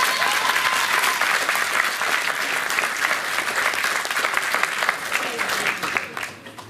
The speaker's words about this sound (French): Je pense que vous pouvez encore applaudir Cheikh Moïse.